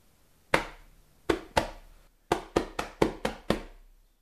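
A pillow is beaten by hand to shake it up, the sharp thumps beating out a rhythm: one hit, a pause, two more, then a quick run of six. Each is a dull, broad smack with a short decay, and nobody speaks.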